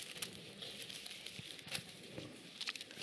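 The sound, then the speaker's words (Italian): Many paper Bible pages being turned at once as listeners look up a verse in the Gospel of John, a steady wash of soft, overlapping rustles and crinkles with scattered sharper flicks, fairly quiet and with no one speaking. “Avete la vostra Bibbia di carta? Fatemi sentire le pagine che”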